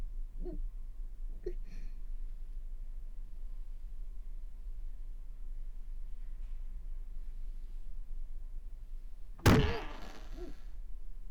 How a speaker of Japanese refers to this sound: あれ、 扉、とても重い。